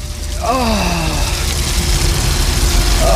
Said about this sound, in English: I know exactly what that is. Like a high-pressure hose. That's Dr. Sexy in a big sexy shower. Yeah. That's in one of those showers in a bag.